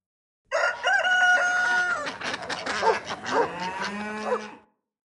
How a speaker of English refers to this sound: A hen. Cock-a-cock-a-dee, cock-a-cock-a-dee.